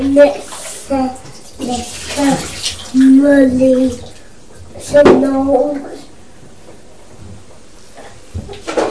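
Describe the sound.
Water sloshes and splashes in a bathtub with bubbles in short, irregular bursts, while an adult and a young child talk over the noise.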